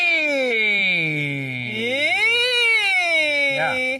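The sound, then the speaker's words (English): A single voice performs a siren-like vocal warm-up exercise, gliding its pitch down, then smoothly up and back down again in one continuous tone for about four seconds, fairly loud. “There's sirens. Oh, this is for you. Sliding vocal pitch up and down.”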